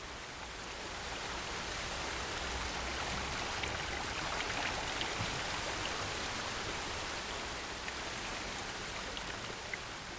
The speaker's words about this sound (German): Der römischste aller Münchner Brunnen. In seiner Mitte der doppelschalige Brunnenkelch. In feinen Fäden ergießt sich das Wasser ins Brunnenbecken.